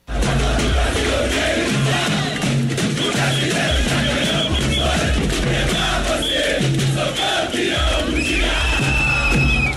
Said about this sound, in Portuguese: O evento começou por volta das 10 horas da manhã com o desfile dos jogadores com os troféus em cima de um trio elétrico. Milhares de rubro-negros protagonizaram uma bonita festa no centro do Rio.